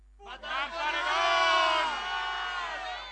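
A crowd yells together all at once on a count of three, shouting something prohibited by the Ley Mordaza: a loud, sustained mass shout of many overlapping voices that starts abruptly, holds for a few seconds, then slowly tapers off.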